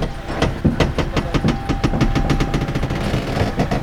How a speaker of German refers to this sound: … und ich, wir sind hier im Auto. Das ist so ein Überschlagssimulator.